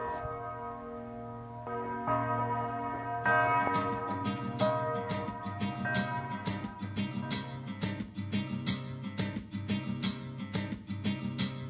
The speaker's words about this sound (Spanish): Así suena una campana repicando desde el campo de concentración de Dachau.